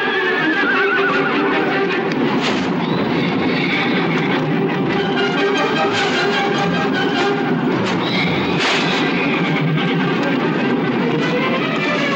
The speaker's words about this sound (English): As the fire takes hold, the two horses run out of the stable.